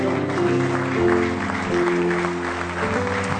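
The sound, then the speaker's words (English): A standing audience at a Wednesday night service claps in praise of the Lord in a dense, steady burst of applause lasting the whole moment, with sustained organ-like tones humming underneath. “Give him a real good hand clap of praise if you love him.”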